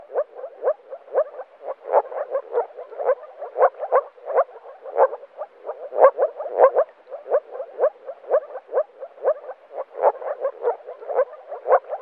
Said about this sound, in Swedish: Åkergrodan låter som en liten hund som skäller.